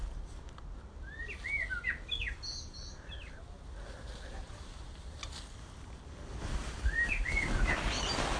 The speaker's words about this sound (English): Happy blackbirds. I do love blackbirds. They're not indigenous to Tasmania.